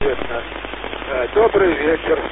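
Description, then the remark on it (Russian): Crackling, hissy radio static fills the band during an amateur radio contact, with a muffled, garbled voice faintly breaking through the noise. The sound is continuous and band-limited, like a weak transmission. “Ну, вас принимаю так большой шумами, елки.”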